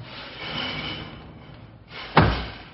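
A door swings shut, closed quietly, with a single solid thud near the end, after a couple of seconds of faint shuffling and room noise. No one speaks.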